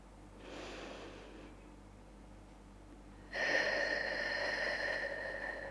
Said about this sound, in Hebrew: נתחיל בארבע נשימות עמוקות.